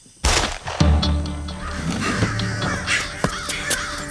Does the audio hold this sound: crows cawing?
yes